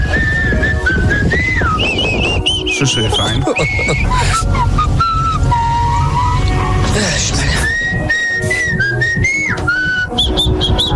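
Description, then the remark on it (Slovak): Radio listeners whistle a melody that rings out loud, wavering up and down in steady phrases for the whole stretch, with voices and busy background noise underneath. “Že sa dostávame do situácie, do nálady, no a ideme pískať.”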